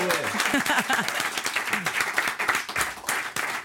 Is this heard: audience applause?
yes